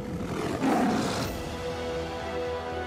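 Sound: tiger roar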